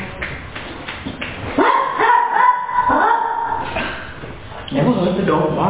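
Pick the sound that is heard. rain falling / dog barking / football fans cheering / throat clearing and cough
dog barking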